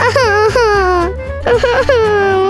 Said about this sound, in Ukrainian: Ти весь час плачеш і плачеш. Бо мене всі ображають.